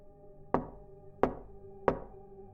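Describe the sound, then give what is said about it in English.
Three sharp knocks on the large front window of a house at about 10:55, evenly spaced about a second apart, fairly quiet, with a low steady hum in the background and no voices. “that's when I heard a small but noticeable knock at the window”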